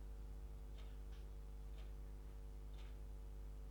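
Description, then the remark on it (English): Soft, faint ticks from an alarm clock click at a slow, slightly uneven pace over a steady low hum, with no voices. “It's your alarm clock.”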